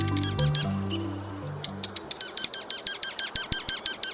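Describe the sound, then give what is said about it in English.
Dark-eyed junco chirping calls ring out in a rapid, steady series of sharp, high chips, fairly loud, with a brief tonal whistle and low hum early on. “If you like drama, watch the juncos at your bird feeder.”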